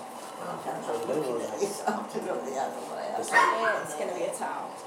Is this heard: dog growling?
yes